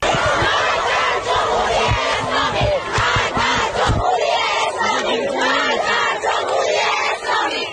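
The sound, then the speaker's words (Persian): A crowd of female students at Alzahra University in Iran chants protest slogans against the leader of the Islamic Republic in unison, loud and rhythmic, with sharp rising shouts in the first half before blending into a sustained, noisy roar of many people. “در دانشگاه الزهرا دانشجویان دختر علیه رهبر جمهوری اسلامی شعار دادند و پرچم جمهوری اسلامی را به آتش کشیدند.”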